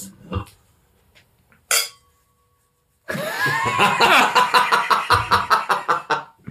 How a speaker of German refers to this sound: zieht mir gerade sein leeres Glas rüber und ich habe einfach mal angeprostet.